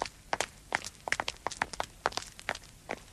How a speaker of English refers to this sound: And you can travel on foot. You can travel on foot, like this.